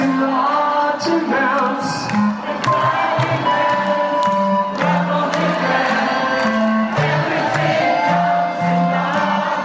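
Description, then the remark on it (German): A loud live concert recording at the Waldbühne in 2018, in which a crowd screams and sings along over the band, with steady booming bass notes and a dense wash of voices lasting the whole time. “Ich glaube, im Hintergrund hört man mich sogar ein bisschen mitkreischen.”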